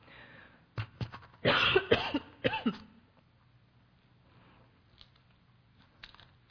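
A short burst of harsh coughing and throat clearing, several rough hacks in a row, followed by near-silence with a few faint clicks and rustles as the person gets a cough drop.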